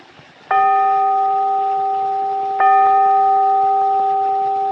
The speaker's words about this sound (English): A bell invites me. Hear it not, Duncan, for it is a knell that summons thee to heaven.